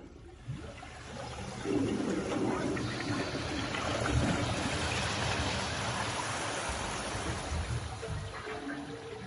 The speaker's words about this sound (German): Da beginnt das Wasser zu blubbern. Das Schiff geht unter.